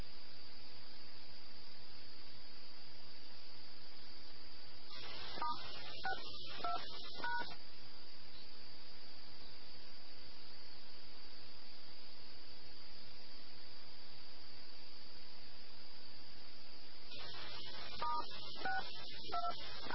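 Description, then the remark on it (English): Telephone keypad dialing tones from someone dialing their phone come through a hissy airport ramp radio channel in two short bursts, each a quick run of beeps lasting a couple of seconds, separated by long stretches of steady static. “Dialing their phone, do it somewhere else.”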